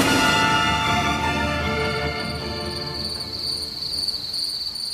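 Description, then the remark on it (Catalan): A cricket chirps steadily and continuously, a bright, high, buzzing trill that fills the whole stretch, moderately loud with no voices present. “El grill.”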